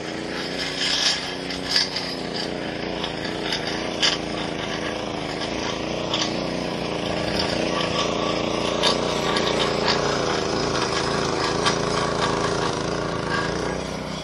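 A gas-powered lawn edger runs outdoors without pause, its steady buzzing motor drone holding a fairly even, loud level with a rough, whining tone and slight surges throughout.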